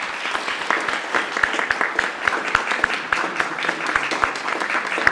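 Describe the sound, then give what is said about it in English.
An audience bursts into sustained applause welcoming new members joining the church, many hands clapping in a dense, steady patter that holds at an even, fairly loud level throughout, with no voices standing out. “Now, if you're happy about these members joining today, we can join together in a round of applause.”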